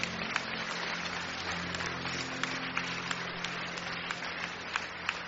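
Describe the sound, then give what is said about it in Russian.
A church audience applauds people who received water baptism the day before, a steady, dense wash of clapping that holds at an even level throughout, with sharper individual claps popping out here and there and a low hum beneath. “Церковь, аплодируйте людям, которые...”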